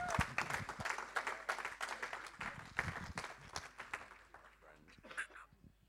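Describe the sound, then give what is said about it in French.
The Connecte Grenoble audience breaks into steady applause to welcome guests, a dense crackle of many hands clapping that holds for several seconds before thinning out, with a voice emerging as it fades. “Connecte Grenoble, est-ce qu'on peut applaudir et leur souhaiter la bienvenue comme un film?”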